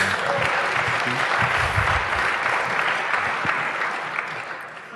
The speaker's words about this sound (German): Jetzt ist Zeit für den Applaus.